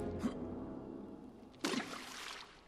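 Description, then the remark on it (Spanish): Stones are thrown into water: one plops softly, followed moments later by a louder splash that sprays and settles into a brief watery trickle. No voices. “Merry y Pippin apedrean el agua.”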